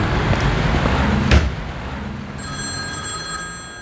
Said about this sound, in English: Ah, bloody cars.